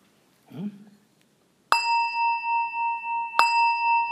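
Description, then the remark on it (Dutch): A gong is struck twice, each hit ringing out with a bright metallic tone and a long, shimmering sustain that pulses slowly; a short, soft vocal sound comes before the first strike. “Inderdaad, als je de bel hoort, hè, van, hè, dan slaat u tweemaal op de gong.”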